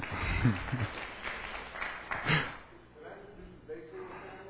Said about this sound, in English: How about another round of applause